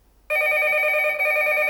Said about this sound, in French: Parfois, le téléphone sonne et Coco court décrocher.